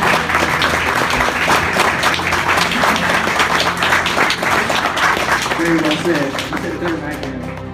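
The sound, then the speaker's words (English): An audience applauds veterans with dense, crackling clapping that stays loud and steady for about eight seconds, easing off slightly at the very end, with faint crowd voices mixed in. “Let's give a round of applause to all of our veterans who are serving and sacrificing and who served and sacrificed in the past.”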